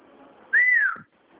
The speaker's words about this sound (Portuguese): Tem um papagaio, né? É, um papagaio.